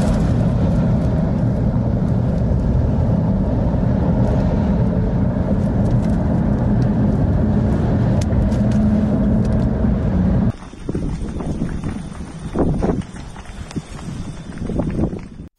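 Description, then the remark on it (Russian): Loud, steady roaring wind buffets the microphone with heavy low rumble for about ten seconds, then the roar drops away to a quieter, uneven gusting hiss with thin high-pitched tones. “Ветрюганище просто ужасный.”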